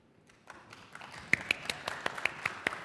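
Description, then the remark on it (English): A short run of quick, evenly spaced hand claps from the audience at a presentation, about a dozen crisp slaps that get louder partway through, with no talking. “The first clap of the day, and it wasn't even from me, and this is my talk.”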